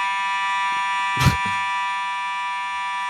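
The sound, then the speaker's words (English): A fire alarm blares continuously in a broadcast studio for about a minute, a steady electronic tone with sharp harmonics that never lets up, interrupted briefly by a short thump or clatter midway. “a fire alarm here at our GPP studio”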